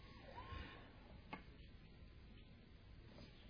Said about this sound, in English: Sirens. Where are they going?